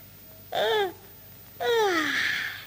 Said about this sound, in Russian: Он зевает, а ты, пожалуй, вовсе спишь.